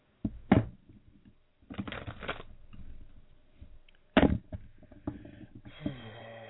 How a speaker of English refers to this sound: I'm going to shuffle the cards, okay? If you'd like to have a card for the day, just tell me when to stop shuffling. And I'm shuffling as we speak.